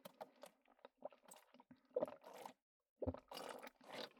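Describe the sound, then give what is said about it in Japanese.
Someone gulps down a drink of tequila, a run of wet swallowing sounds with short pauses between them, followed by a louder gulp and a final burst of liquid noise. “今回はね、ごくごくを入れましたよ。”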